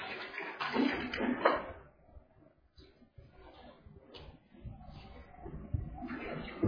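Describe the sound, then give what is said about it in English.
A speaker pours water into a glass for himself, a louder splashing stream at first that tapers into quieter trickles and light handling noises. “Let me have to get some water myself.”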